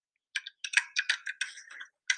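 Clacking computer keyboard typing: a quick, irregular run of crisp, bright key clicks in short bursts, with a brief pause before a final cluster. No voices are heard.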